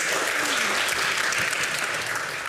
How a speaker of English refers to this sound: Big cheer.